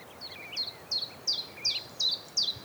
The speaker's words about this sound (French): Donc là, on a un pouillot véloce, ce qui fait tchif, tchaf, tchif, tchaf. Son surnom, en ancien français, c'était le compteur d'écus, parce qu'on a l'impression qu'il compte des pièces.